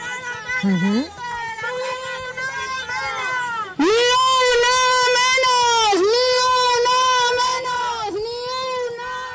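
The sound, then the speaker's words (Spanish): A high female voice chants slogans such as "ni una menos" through a megaphone at the head of a feminist demonstration circling the Puerta del Sol, harsh and distorted, with loud repeated phrases that grow louder partway through and rise and fall in a steady rhythm. “Hay chicas que encabezan la manifestación con un megáfono, la podemos escuchar.”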